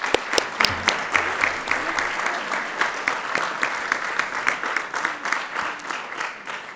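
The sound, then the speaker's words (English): A roomful of people at a workshop claps steadily for the two co-chairs for several seconds, a dense patter of many hands at moderate loudness with no pauses. “And I would like to give a short applause to them.”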